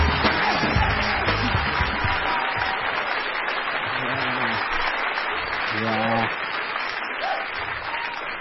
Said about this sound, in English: Ah, this is that applause. And he's in studio.